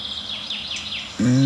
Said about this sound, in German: Das klingt eher nach Gartengrasmücke, die sauer ist, weil Neuntöter in der Nähe ist.